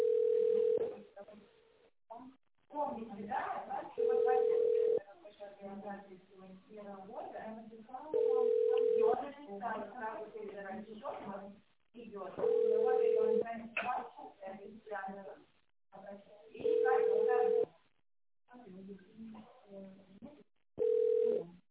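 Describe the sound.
A telephone ringback tone purrs steadily as a call to a company is placed, about five long rings spaced a few seconds apart, with muffled voices and line noise filling the gaps between them.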